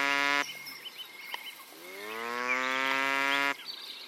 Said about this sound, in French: j'avais enregistré, à mon insu, les cris d'alerte d'un ragondin.